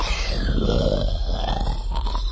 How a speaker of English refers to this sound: The Aqualish made a wet, shuddering noise.